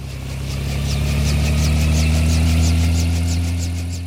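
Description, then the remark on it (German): A helicopter engine hums low and steady while the rotor blades thump in an even, unhurried rhythm as it prepares to take off over a white expanse, a constant mechanical drone that rises slightly then eases off, with no voices. “Die Rotoren des Hubschraubers schlagen träge und setzen dann zum Flug über das weiße Nichts an.”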